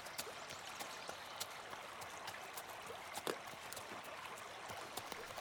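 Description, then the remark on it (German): River water rushing steadily, a constant broad wash with small splashes and gurgles popping out at irregular moments. No voices. “Nach einigen Stunden erreichten sie den Fluss Byros und folgten diesem, da sie wissen, in der Nähe des Flusses soll das Dorf Shimash liegen.”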